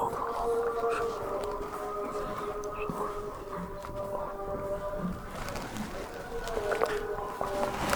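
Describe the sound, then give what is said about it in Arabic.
A police siren wails continuously for the whole stretch, interrupting a lesson, steady layered tones with slight wavering, moderately loud over a low background rumble. “خلاص انقطع الدرس، الشرطة يطلع ولا ما؟ لا خلاص وقفت خلاص.”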